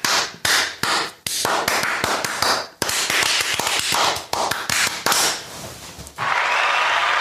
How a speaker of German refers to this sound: werden wir jetzt den absolut unwiderlegbaren Beweis erbringen und uns in die Hände klatschen. Und uns anfassen. Das ist nämlich etwas... Aua! Jetzt könnte man auch sagen, ich habe einfach selber in meine Hände geklatscht, aber jetzt pass auf.